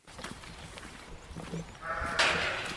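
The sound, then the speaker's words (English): Dairy sheep from a 300-strong flock bleat on the Flanagan Farm in Rockfield, County Mayo, on a sunny day. Scattered fainter calls and rustling give way to a loud, wavering bleat near the end; no voices heard. “I paid a visit to the Flanagan Farm where Michael, Aisling and their family make Velvet Cloud yoghurt and Rockfield cheese from the milk of their 300-strong flock of dairy sheep.”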